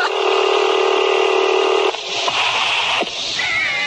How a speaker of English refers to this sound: We're lifting the phone. Dial tone. And WGR 55.